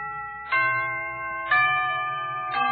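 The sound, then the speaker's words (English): A sequence of clear, ringing bell tones struck about once a second, each leaving a sustained harmonic hum under the next: a characteristic London clock chime marking a quarter of the hour with a short melody. “Now, how about the second characteristic chime?”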